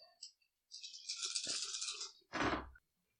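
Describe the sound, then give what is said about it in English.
Dice rolled in a tabletop game rattle and tumble across a hard tabletop for over a second, followed by a louder, sharper clatter as they settle. Fairly loud, with no voices. “The dice got you see the engines on the enemy ship start to brighten up a little bit.”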